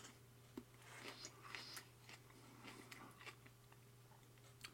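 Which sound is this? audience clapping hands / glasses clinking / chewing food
chewing food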